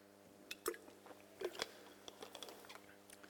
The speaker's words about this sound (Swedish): Jag tror jag ska ta en liten klunk vatten.